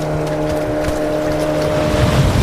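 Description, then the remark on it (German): A speedboat engine drones steadily as it approaches, with a low harmonic hum over wind and water noise, growing slightly louder toward the end. “grinste mich von dem Speedboot an und reichte mir die Hand.”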